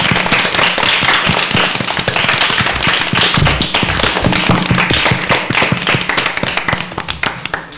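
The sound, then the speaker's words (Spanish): A loud, steady burst of children clapping at school for the kitchen staff and those who look after them at mealtime, dense overlapping claps sounding for several seconds without voices, tapering slightly toward the end. “Les damos un aplauso a quienes están en la cocina y a quienes cuidan de vosotros durante ese rato, ¿verdad?”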